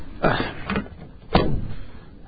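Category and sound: household object, door opening and closing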